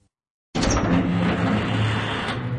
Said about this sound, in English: Ryan stood and watched as the door of the torture cell began to swing open.